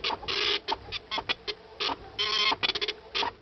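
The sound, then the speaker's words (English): A dot matrix printer buzzes through a line in rapid bursts, its harsh, rasping chatter broken by brief pauses as the print head shuttles back and forth. No one speaks. “A dot matrix printer, remember that?”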